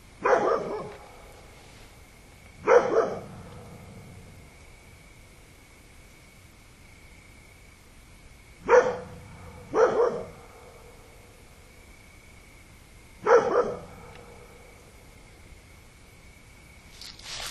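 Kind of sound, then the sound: animal, dog barking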